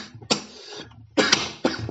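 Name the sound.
coughing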